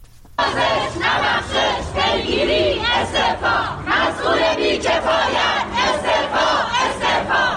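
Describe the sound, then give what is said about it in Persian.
A large crowd of journalists protesting in front of the Department of Environment building in Iran chants loudly in unison, many voices shouting in a steady rhythmic pattern of repeated phrases with short swells, sustained throughout without any single clear speaker. “گروهی از روزنامه‌نگاران روز چهارشنبه در مقابل ساختمان سازمان حفاظت محیط زیست تجمع کردند.”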